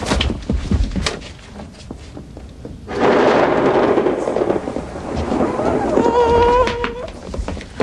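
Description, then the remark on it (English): A deep, loud rumble of thunder from a windy storm swells up partway through and rolls on over a steady wash of rain-like noise, with a brief voice-like sound near the end. “Before thunder?”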